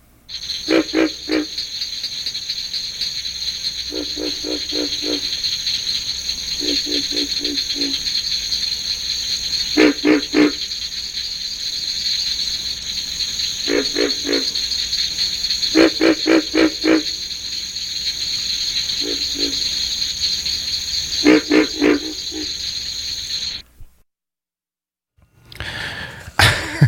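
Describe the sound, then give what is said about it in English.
Recorded North American frog calls from a CD of frog sounds, in short pulsed bursts repeated every second or two, over a steady high insect-like drone; the chorus cuts off abruptly near the end, then briefly resumes. No one speaks. “We have a CD, for some reason, we have a CD of sounds of North American frogs. It's just one after another.”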